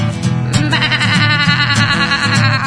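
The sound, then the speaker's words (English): A sheep bleats loudly and close by, several wavering, quavering bleats running together over a few seconds with no talking. “My mom has got a sheep on her head. She keeps it there all day.”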